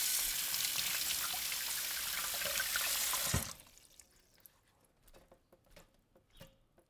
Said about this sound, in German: Ich pflücke das Basilikum und wasche es mit dem Wasser. Das Wasser fließt aus dem Wasserhahn, das Wasser rauscht. Das Wasser fließt rauschend aus dem Wasserhahn.